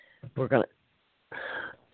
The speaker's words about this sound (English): I've got a real bad cold, so if I'm coughing and hacking on you, I'm so sorry.